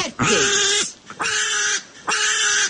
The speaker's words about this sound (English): they're standing there with this pig that's just screaming